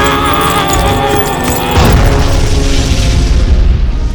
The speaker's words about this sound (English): So much for the great Baben the Butcher. Baben the Butcher has survived bigger explosions than that.